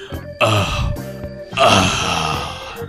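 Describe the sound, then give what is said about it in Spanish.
Sultry, suggestive music with two loud, drawn-out moans, one short and one longer, rising over a steady sustained backing. “Perdón que empecemos con esta música así medio porno.”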